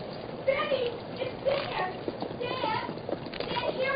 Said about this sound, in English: I hear a horse coming.